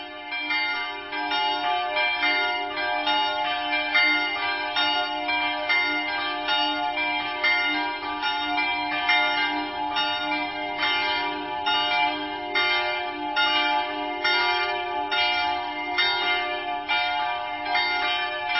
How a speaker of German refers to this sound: Nachdem wir zu Beginn schon die Glocken der katholischen Pfarrkirche St. Theresia gehört haben, wollen wir auch nun die der evangelischen Versöhnungskirche hören.